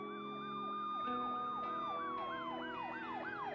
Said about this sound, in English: I could hear the sirens coming in the distance.